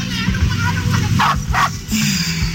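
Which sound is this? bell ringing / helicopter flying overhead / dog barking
dog barking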